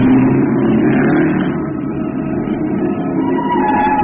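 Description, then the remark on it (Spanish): A sports car engine roars steadily as it speeds along a road southeast of Tangier at sunset, a dense, continuous rumble with road noise that stays loud for the whole stretch, with no voices. “Esa misma tarde, al declinar el sol entre las montañas de Hazul Maikat, al sureste de Tánger, un auto deportivo devoraba la carretera en vertiginosa carrera.”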